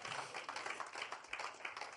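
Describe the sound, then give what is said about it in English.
An audience claps together in a steady, dense patter of many hands, a continuous crackling wash that holds at an even level for about two seconds without any voices. “Clap for the open rewards.”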